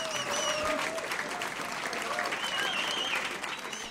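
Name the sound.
audience applause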